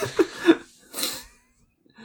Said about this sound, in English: It's just a slowed down squeak, and it's the sound that Lumpkin's making to try and act as if she's fucking unconscious